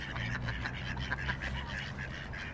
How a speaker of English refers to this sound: You hear that lovely sound? That's the ducks along the Water of Leith. We've got tufted ducks and the mallards and some coots here.